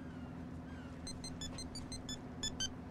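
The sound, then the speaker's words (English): A mobile phone ringtone of bright, repeated electronic bleeps in a quick melodic pattern, coming from a body in a car boot, starting partway in, muffled slightly over a steady low engine-like rumble. “The ringtone's coming from Lawrence's body in the boot.”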